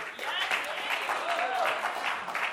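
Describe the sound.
An audience applauds, a dense, steady wash of many hands clapping that holds at an even, fairly loud level throughout, with a faint voice briefly audible underneath.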